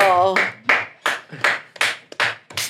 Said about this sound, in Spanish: sean todos bienvenidos a esta gala de la belleza. ¡Aplauso!